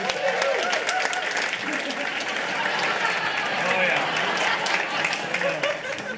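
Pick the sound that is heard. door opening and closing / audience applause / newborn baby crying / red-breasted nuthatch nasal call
audience applause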